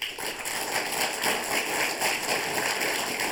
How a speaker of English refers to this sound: And I will please ask you respectfully to refrain from clapping. Okay, thank you very much. If you want to clap, go like this.